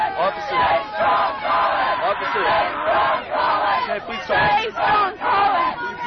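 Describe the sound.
A crowd shouts continuously in overlapping, raised voices, loud and agitated, with a few individual cries breaking through the din of the protest.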